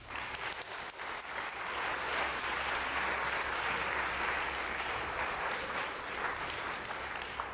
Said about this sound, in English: All right. Can we get a round of applause for our winners?